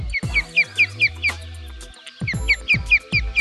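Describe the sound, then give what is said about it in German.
An osprey calls in two quick bursts of sharp, high whistled chirps, about five or six each, with low thudding sounds underneath. “Oder der Fischadler.”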